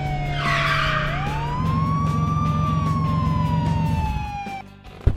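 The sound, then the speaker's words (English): A police car siren wails loudly, its tone sliding slowly up and then down over a low engine rumble, ending with a short sharp knock. “Now we get to see these guys get arrested.”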